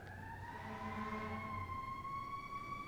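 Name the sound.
passing emergency vehicle siren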